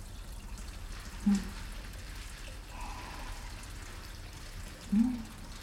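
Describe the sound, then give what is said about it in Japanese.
Handmade herbal-oil soap being lathered between wet hands: a steady wet rubbing and squishing with a soft foamy hiss, and two brief louder squelches a few seconds apart. “まずは手の中で石鹸をたっぷりと泡立てますね。”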